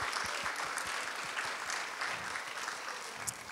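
An audience claps steadily, a dense patter of many hands forming a continuous, even wash of applause with no voices on top.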